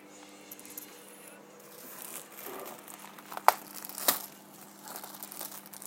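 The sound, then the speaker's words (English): Crinkling and rustling of toilet paper, with two sharp tearing rips about half a second apart partway through, then more soft crumpling. “I bought toilet paper instead of like normal tissue, like kitchen napkins thingy.”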